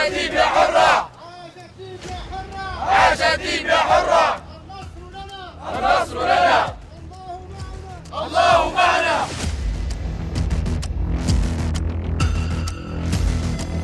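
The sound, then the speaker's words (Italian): A large crowd in Libya shouts rhythmic, jubilant chants of "Libia Harra" (Free Libya) during the revolution, in loud, repeated bursts of many voices, then the chanting gives way to a low, rumbling wash of noise and scattered cries. “Libia Harra urlavano e quei cori di giubolo mi avevano un po' appannato.”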